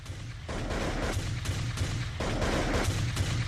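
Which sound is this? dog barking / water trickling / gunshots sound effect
gunshots sound effect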